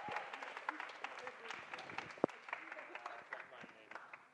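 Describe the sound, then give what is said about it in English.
An audience applauds steadily as a man is called up to pitch an arts proposal to a panel, a dense wash of many hands clapping for several seconds, with scattered voices and a few louder sharp claps mixed into the noise. “Big round of applause”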